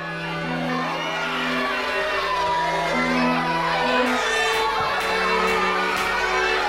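A loud crowd of schoolchildren in classrooms shouting and screaming in panic as teachers dressed as red and green oni raid the room, a dense chaotic din with sharp shrieks breaking through, sustained throughout.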